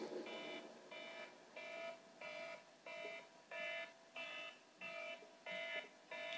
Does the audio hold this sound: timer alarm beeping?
yes